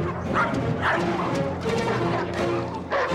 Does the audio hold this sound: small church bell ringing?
no